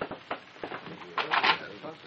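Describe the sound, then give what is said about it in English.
A door handle rattles and a latch clicks several times, then a brief scraping creak as the inside door of a building swings open, with faint murmuring voices in the background. “How much do you want to bet he left the inside door open for us? Try it.”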